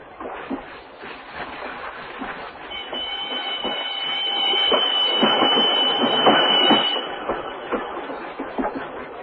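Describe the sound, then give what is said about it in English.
A passenger train rumbles along the rails, with rhythmic clacking and a high metallic wheel squeal that rises through the middle before the noise eases off. “This train will stop at Tucumcari.”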